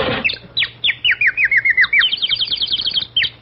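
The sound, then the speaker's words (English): A canary sings a quick run of bright, rising chirps and short trills, fairly loud, repeating steadily for a few seconds over a faint low hum. “Well, that's a canary bird and a mighty pretty one, too.”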